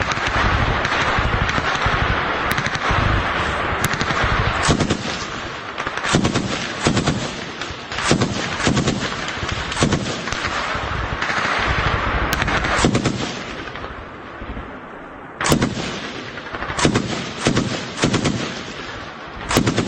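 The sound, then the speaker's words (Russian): Bursts of M249 machine gun fire from a Ukrainian soldier in combat on the front near Lyman, Kreminna and Kupiansk crackle in rapid, loud strings, with sharp individual shots and short pauses between volleys, continuing throughout with no talking. “Украинский боец работает из пулемета М249.”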